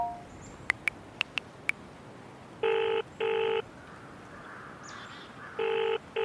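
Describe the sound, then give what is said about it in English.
A mobile phone being dialed, with five quick keypad beeps, then a ringing tone sounding in paired bursts that repeat after a pause. Clear, with no talking. “That's not magic, it's a mobile phone.”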